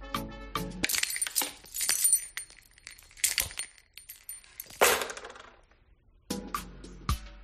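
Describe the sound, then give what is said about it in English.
A bunch of work keys for access to a school is twirled in a hand, jingling and clinking in several bright metallic bursts, fairly loud, then tossed onto a desk at work with a sharp rattling clatter near the end. No one speaks. “There's the sound of my work keys as I twirl them in my hand, as I often do, and kind of throw them, toss them on my desk at work.”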